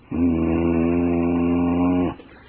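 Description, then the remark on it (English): A person imitates the growl that two house cats make at a new kitten: one steady, low, rumbling tone held for about two seconds at even loudness, then cut off abruptly. “With this new kitten, my other two cats, they make this sound all the time, just like this. I can do this one very well.”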